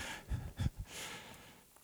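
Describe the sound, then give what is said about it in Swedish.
Three quick, heavy stomps thud, each with a short crunch of something being crushed underfoot, followed by a soft rustling crackle as the sound fades. “Är någon som vill trampa på den här?”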